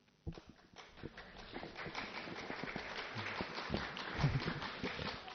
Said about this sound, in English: Very good. I've got one person clapping. Ah, so kind of you. And she clapped from stillness.